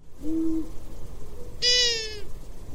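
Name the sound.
long-eared owl calls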